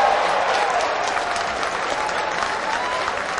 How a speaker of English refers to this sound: Well, there's something for the crowd to cheer about. Play of the game right there in the first inning.